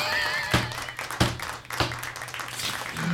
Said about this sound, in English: Woohoo! There's a little round of applause for drugs.